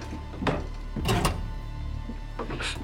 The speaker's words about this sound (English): Close the door, he's coming. … runs over and tries to shut the closet door.